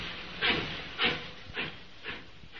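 steam train departing

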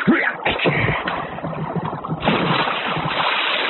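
rowboat moving through water

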